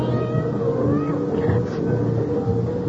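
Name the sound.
cat meowing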